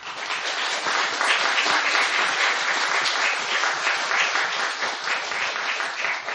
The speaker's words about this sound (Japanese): 先生に改めて感謝を、拍手を持って感謝の表したいと思います。